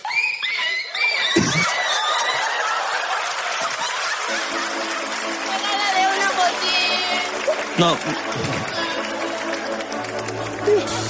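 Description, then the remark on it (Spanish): A child's voice on a show imitates the yelping, whining cries of a run-over puppy: shrill, wavering squeals in bursts, with crowd noise, laughter and scattered applause around them. “di fuerte tu nombre y a quién vienes a imitar. A perrito atropellado.”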